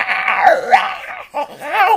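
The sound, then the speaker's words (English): A person vocally imitates the wet, squelchy growl of Beans, a French bulldog, loud, warbling for about two seconds with a brief pause before a second gurgling burst. “I don't know how to describe the voice he uses. It's a madness, a crazy, crazy voice. I try to impersonate it.”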